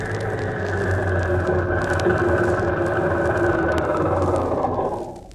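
A car's steady engine drone, loud, holds for several seconds with a low rumble beneath it, then tapers off slightly at the end. The car carries Mr. Keel and is driven by Ding Dong, the giant wrestler. No one speaks.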